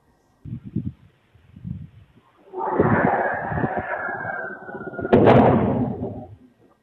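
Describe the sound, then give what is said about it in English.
A crash in a neighborhood recorded by a Ring doorbell camera: a few dull thumps, then a swelling rumbling roar with a whining tone, broken by a sharp, loud crash-like bang that rings out and fades. Outdoors, no talking. “And also he played a video of a Ring camera in the air in the neighborhood of his that caught audio of the crash.”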